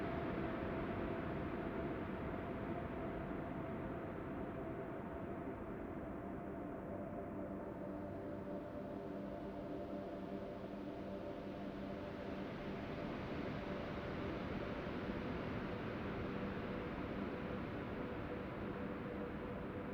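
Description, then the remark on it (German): Ocean waves rolling onto a beach blend into a steady, unbroken rushing roar at an even loudness, with little audible rise and fall between swells and no voices. “Jede Welle braucht viel länger, um den Strand zu erreichen, als du es gewohnt bist.”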